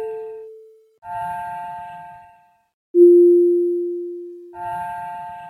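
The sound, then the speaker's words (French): Slowed sonified tones of the planets, each sounding as a planet completes an orbit, with Mercury most often, then Venus, Earth, Mars and others. Sustained electronic notes at different pitches: some are pure and steady, others chime-like with harmonics and a low rumble, each decaying before the next enters. “Tu vois, à chaque fois qu'il y a une planète qui boucle une orbite, ben ça fait un son.”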